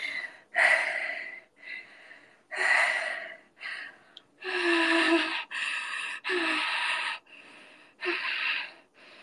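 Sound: heavy breathing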